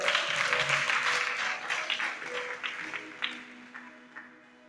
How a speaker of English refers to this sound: Clap hands for the Lord.